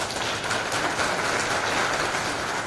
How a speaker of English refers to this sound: I want to give a big thank you to the organizers and all you for being here. We couldn't be possible without the, you know, the community, so big round of applause for the organizers.